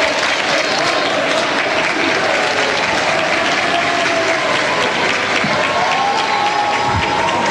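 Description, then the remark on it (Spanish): Steady, dense applause from a large crowd of palace workers, some with children, waving flags and taking photographs inside the Palacio de la Moneda, loud and continuous throughout, with scattered voices and faint cheering mixed into the clapping. “Varias personas, ustedes las están viendo con varias banderas, aplausos, fotografías, hay niños también, bueno, son parte de los trabajadores acá del Palacio de la Moneda”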